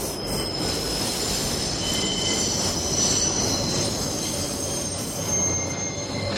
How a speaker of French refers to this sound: Il y a toujours ce bruit de métro dans la tête.